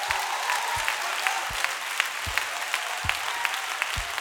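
An audience claps their hands steadily for the call, a dense wash of many overlapping claps with a few sharper hits standing out in a loose rhythm, no voices over it.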